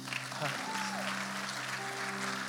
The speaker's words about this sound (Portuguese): Amém. Aplauda Jesus.